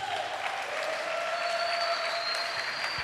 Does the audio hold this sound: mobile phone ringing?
no